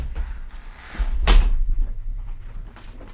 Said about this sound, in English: I'm sorry. I had to open the door. I heard the cat outside.